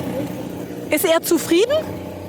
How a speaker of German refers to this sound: Wenn der Motor dann läuft, dann ist er zufrieden. Also momentan klingt es ja gut.